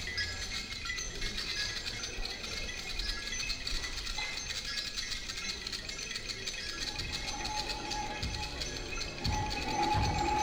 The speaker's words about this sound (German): Die Relais, die man hört, sind eigentlich Starter aus Neonröhren